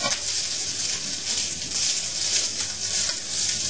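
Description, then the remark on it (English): A steady, dense sizzle of rice frying in hot oil, turned with a long chopstick, with a bright crackling hiss that holds fairly loud throughout, occasional faint stirring taps beneath it. “And you use it to kind of separate the rice a little bit. Yeah. And leave it there, frying for a while, 10 or 15 minutes, or less even, doesn't matter.”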